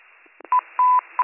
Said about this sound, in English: I'm going to put out cancellation tones. 21 Rescue is responding.